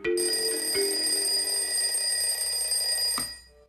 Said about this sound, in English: Lester turns off his alarm.